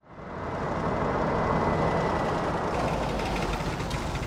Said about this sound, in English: Here comes Jan in his zippy white van.